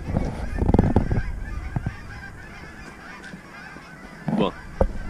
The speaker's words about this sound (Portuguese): Olha, dá uma olhada. É imigrante. Essas gaivotas vieram dos Estados Unidos. E elas vêm mesmo, né? Elas atravessam...